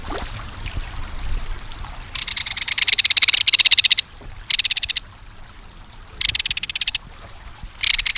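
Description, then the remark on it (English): A belted kingfisher gives its harsh, metallic rattling call in several loud, rapid bursts of clicking notes, separated by short pauses, over a soft background of running water. “There's no other sound along a stream or waterway quite like the reverberating metallic call of a belted kingfisher.”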